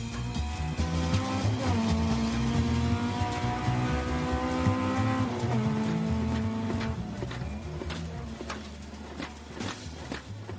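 A rally car races through a stage in Fermoy, its engine roaring loudly and rising and dropping in pitch through gear changes, with gritty bursts of noise as it pushes hard.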